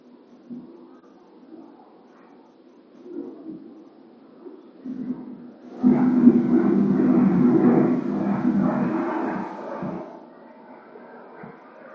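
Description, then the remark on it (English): An airplane passes overhead, a low steady rumble that swells abruptly into a loud, broad roar for several seconds, then eases back to a faint drone. “Feel the space of the airplane flying over and the people in it.”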